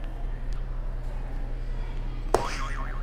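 A buzzer sound effect goes off late, opening with a sharp hit and then a wobbling, springy boing-like tone that warbles up and down, over a steady low hum.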